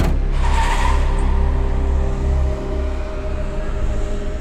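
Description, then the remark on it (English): A taxi screeches away after the passenger pays the driver in cash near a hotel: a short, harsh tire squeal in the first second over a loud, low engine roar that drones on and eases slightly toward the end. No voices. “As the taxi screeched away, I straightened my tie and smoothed the jacket of the double-breasted suit I'd taken off the man in the jail corridor.”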